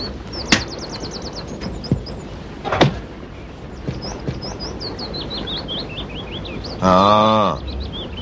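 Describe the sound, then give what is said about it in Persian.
Colorful birds chirp and twitter in quick, high-pitched runs throughout, at a place where many colorful birds pass through, with a few sharp clicks scattered in and a loud, squeaky rising whine near the end. No one speaks. “این ناحیه که فرود آمده این قربان محل عبور همه قزپرندگان رنگ برنگ است.”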